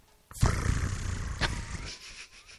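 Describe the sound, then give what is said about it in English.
A voice imitates a calendar flipping open: a sudden loud, rough, breathy burst that rasps on for nearly two seconds, with a brief sharp accent partway through before trailing off. “Well, first of all, before that, do you give me a sound of the calendar flipping open?”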